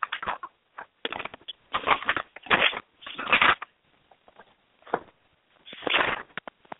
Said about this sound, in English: I can hear you rustling it together, girl.